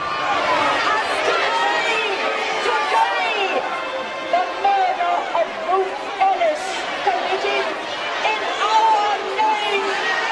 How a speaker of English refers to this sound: The crowd yell angrily as the prison gates are opened by police for a car to leave.